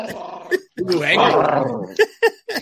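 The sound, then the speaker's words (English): A puppy named Chewy growls in rumbling, throaty bursts, first a short growl, then a longer drawn-out one that rises and falls, ending with three quick, sharp yips. “I got my little monster here. Hey, puppy.”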